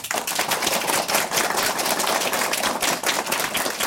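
A crowd applauds steadily, many hands clapping in a dense, crackling wash of sound that holds at an even, fairly loud level throughout, with no voices.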